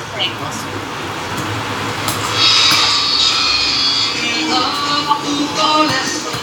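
A steady, fairly loud roar of an airplane flying overhead, a high whine rising in the middle of its pass before easing back to a broad rumble.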